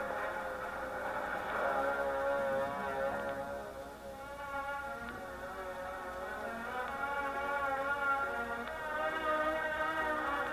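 A large Greyhound bus engine drones steadily, its deep rumble wavering slightly in pitch as it rolls in and idles, with no voices over it.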